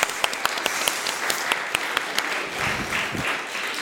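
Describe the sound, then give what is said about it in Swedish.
A crowd of people applauding, a steady wash of overlapping claps with a few sharper hand claps standing out, holding at even strength throughout. “En applåd står kvar, men en applåd.”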